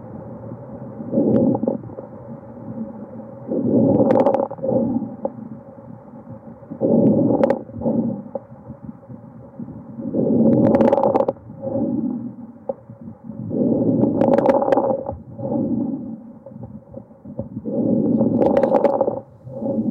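Typical fine crackles of pulmonary fibrosis heard through a stethoscope on auscultation: a steady series of muffled, low breaths, each carrying fine, brief crackling pops, repeating about every three seconds with no talking.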